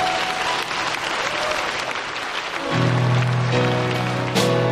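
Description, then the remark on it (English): A church audience claps in a steady, dense wash of applause as a clap offering to thank God after a prayer. Partway through, sustained organ or keyboard chords come in beneath the clapping, which carries on to the end. “Would you thank God with a clap offering?”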